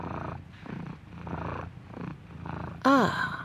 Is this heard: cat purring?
yes